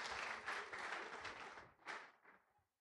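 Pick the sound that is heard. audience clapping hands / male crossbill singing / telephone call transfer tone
audience clapping hands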